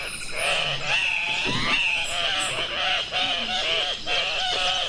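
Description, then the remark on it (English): Andean cock-of-the-rock calls: a dense, continuous chorus of loud, nasal, honking squawks, overlapping and repeating with rising and falling pitch, with no one talking. “True to form with their bold plumage, the Andean cock of the rock also takes part in, well, cocky mating rituals.”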